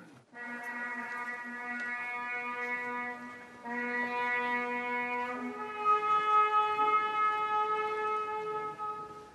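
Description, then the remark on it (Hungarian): A ceremonial horn sounds long, steady, loud blasts with a rich buzzing tone, shifting pitch twice across three sustained notes with no pauses and no voices, at the rite opening the last Holy Door at the Papal Basilica of St. Paul Outside the Walls, led by Cardinal James Michael Harvey on Sunday morning, January 5. “A zsoltáros szavai és a kürt hangja kísérte az utolsó szentkapu megnyitásának szertartását a falakon kívüli Szent Pál pápai bazilikában, amelyet január 5-én vasárnap délelőtt James Michael Harvey bíboros érsek vezetett.”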